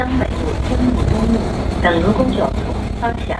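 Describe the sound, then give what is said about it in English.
Steady, loud rushing stiff April wind roars through the open windows of a moving bus over a low engine rumble, with indistinct voices murmuring in the background. “A stiff April wind blasts through the bus. All the windows are open.”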